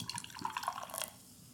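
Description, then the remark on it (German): Beer glugs and splashes as it is poured into a glass, a short bubbly stream with fizzing and small gurgles for about a second, then quiet. “Okay, ich gieße das jetzt mal ein, wir gucken mal die Farbe.”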